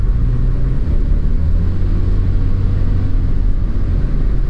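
Steady low rumble of a car moving along a road, a continuous engine and tire drone with a faint rise in revving, fairly loud, no voices.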